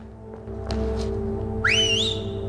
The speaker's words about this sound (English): runs to within sight of Jean and Alex and whistles.